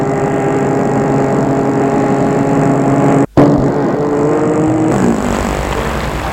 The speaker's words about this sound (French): Il arrête sa voiture dans une petite rue près de la gare Montparnasse.